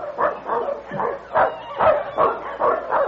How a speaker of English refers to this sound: Say, listen. Do you hear that? A dog team. You're darn right I hear it. It's the commander. It must be.